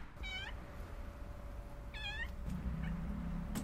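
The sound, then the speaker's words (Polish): A cat fed by the local residents meows twice, each a rising-then-falling cry about a second apart, with a fainter short mew after, over a steady low background rumble; no one speaks. “A ten kotek to jest jakiś taki... To jest kotek tutaj karmiony przez nas wszystkich, bo właścicielka zmarła parę lat temu i karmimy ją wszyscy paroń.”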